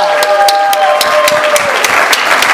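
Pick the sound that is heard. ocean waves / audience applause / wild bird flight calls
audience applause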